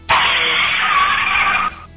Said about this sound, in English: No, that's a car crash.